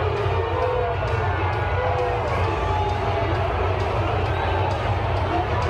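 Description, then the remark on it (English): A large crowd at a Dallas Cowboys game roars in a sustained, loud wash of voices with a low rumble underneath, the steady jeering of booing filling the whole stretch without letup and no clapping standing out. “That's a pretty loud boo. I don't hear anyone clapping.”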